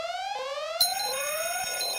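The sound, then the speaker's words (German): A harsh electronic alarm tone made of repeating rising sweeps, loud and continuous, with a second shrill layer joining partway through. No voices are heard. “Nein, Warnsignale müssen richtig lästig klingen, sagt Professor Dr.”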